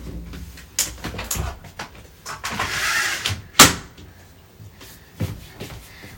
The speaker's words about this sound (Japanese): ちょっと暑いから窓開けさせてください。よいしょ。